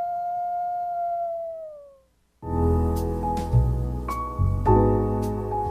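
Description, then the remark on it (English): A single long, steady wolf howl holds one pitch, then slides downward and fades out. After a brief silence, loud music with punchy drum hits takes over. “Let's live and let howl.”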